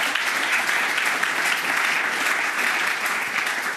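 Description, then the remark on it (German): A crowd claps steadily in sustained applause, a dense, even patter of many hands that holds at a strong level for the whole stretch with no voices over it. “Dankeschön, ja, ihr könnt klatschen.”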